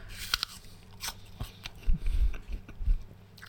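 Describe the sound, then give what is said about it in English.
Crisp crunching from someone biting into a crunchy banana, a few sharp bites followed by chewing with low thuddy mouth sounds, no talking. “a banana. It's a crunchy banana.”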